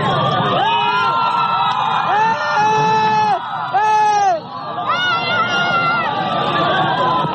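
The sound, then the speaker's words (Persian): A dense crowd of Juan Guaidó's supporters cheers and shouts continuously as he boards a helicopter, many voices rising in overlapping whoops and calls, loud, with a busy roar of chatter underneath throughout. “در ادامه همین ویدیو آقای گوایدو در میان تشویق و حمایت هوادارانش سوار بر هلیکوپتری می شود که او را به مکان نامعلومی منتقل می کند.”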